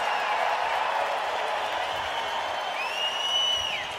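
A large concert crowd in Boston claps and cheers in a dense, steady roar, with a shrill whistle cutting through near the end before the noise begins to ease.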